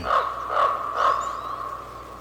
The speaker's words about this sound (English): Well, let's listen to a raven in the forest right now.